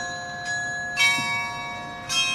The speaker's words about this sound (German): Mit dem Glockenspiel von Stendal im Ohr fahren wir nach Werben.